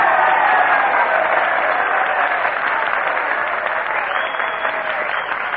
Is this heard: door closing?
no